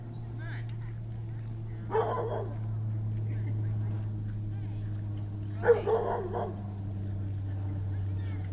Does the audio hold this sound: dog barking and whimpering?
yes